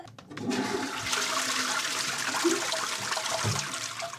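A toilet flushes in a bathroom, a steady rushing gush of water that starts abruptly and roars on evenly for a few seconds, with gurgling swirls underneath and no voices.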